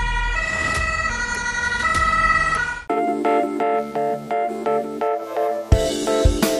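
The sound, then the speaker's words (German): A loud two-tone German emergency-vehicle siren (Martinshorn) wails as the vehicle, blue lights on, drives as fast as it can to an emergency scene; its pitch alternates in a steady back-and-forth pattern with sharp pulses, and no one speaks over it. “Er schaltet sofort Blaulicht und Martinshorn an und fährt, so schnell er kann, zur Einsatzstelle.”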